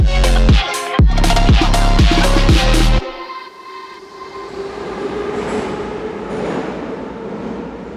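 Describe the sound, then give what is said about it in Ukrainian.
A metro train at Derzhprom station: a loud roar with a whining tone and rhythmic clatter for about three seconds, then a softer, steady rumble and hum with no voices. “Це станція «Держпром».”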